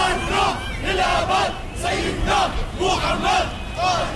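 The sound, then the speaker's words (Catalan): A large crowd of faithful leaving a service in Syria chants slogans in unison, the most heard being "Syria is one": voices rise and fall in a steady repeating rhythm of loud shouted phrases roughly every half second, with a constant roar of many voices underneath. “Altres sortien cridant consignes.”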